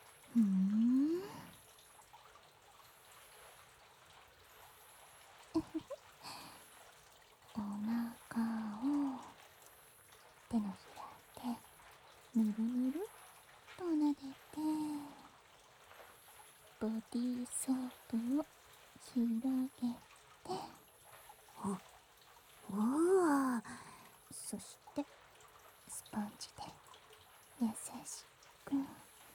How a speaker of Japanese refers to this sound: 優しく撫で回すようにこすって泡立てて。